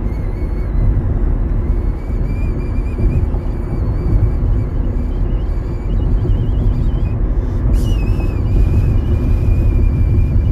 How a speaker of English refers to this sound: hear that vibrato in my whistle? That's the sound of the bump, like the brrr in the car. Listen.